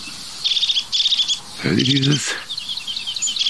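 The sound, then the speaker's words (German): A crested tit calls in a series of short, high, rapidly trilled bursts, repeated steadily, with a man's voice briefly speaking over them midway. “Das ist eigentlich die Kiefernmeise.”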